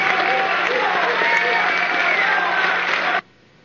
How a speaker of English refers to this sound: And by the way, right after that, Bill Maher made the statement. He said, that much applause? I've never had a Republican on the program before that got that much applause.